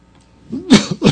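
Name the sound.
cough and throat clearing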